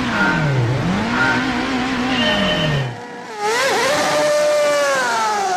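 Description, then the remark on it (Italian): Loud race car engines rev hard at the start of a race, their pitch sweeping up and down, then roar off together in a surging burst of acceleration after a brief dip, intense with no voices. “Studio, sono partiti, incredibile che partenza.”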